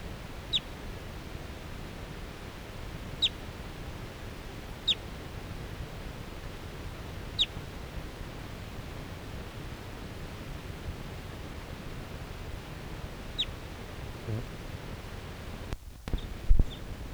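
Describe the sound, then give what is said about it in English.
A wild female bird, circling over captive birds, gives about five short, sharp, high-pitched calls, spaced a few seconds apart, over a steady background hiss, with a couple of dull knocks near the end. “A wild bird again.”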